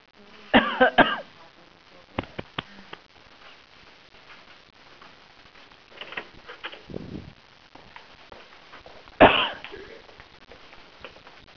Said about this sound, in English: I think I'm going to die of a cough. I am. We're going to have to pause.